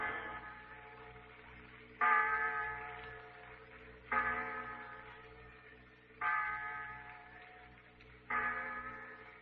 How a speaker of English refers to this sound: The clock in the insurance tower, Pete. 6 o'clock.